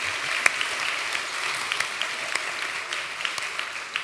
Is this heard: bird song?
no